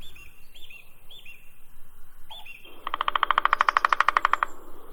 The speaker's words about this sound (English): Oh, listen. Very sweet. Here we have the birds singing, the beautiful nature, and a new adventure in Iran. Yes, I'm in Shirabad Park in Golestan province, and our today's destination is Shirabad Waterfall.